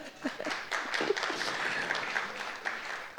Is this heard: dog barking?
no